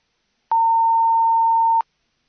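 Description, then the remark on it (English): A single steady electronic beep from an answering machine, the signal to leave a message after, a clean mid-high tone lasting just over a second and stopping abruptly, with silence before and after. “Christian Jobert est absent, mais vous pouvez laisser un message après le signal.”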